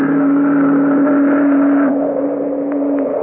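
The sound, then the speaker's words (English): A car engine drones steadily as it drives into the moonlight toward a river, a loud, constant low hum that dips slightly in pitch partway through, with no voices. “He drove with Lenore into the moonlight. They parked near the river, murmurous with history and the ancient dreams of long silent pioneers.”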